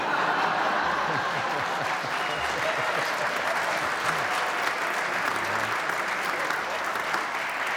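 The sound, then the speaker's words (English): An audience bursts into steady, dense applause after a joke about the Vikings, holding at full strength for several seconds, the many claps blending into a continuous rushing sound with faint chuckles mixed in. “I know he's not clapping.”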